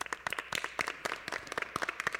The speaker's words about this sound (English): You never told me this before, so let me hear you clap. Okay, let's have this whole row clap.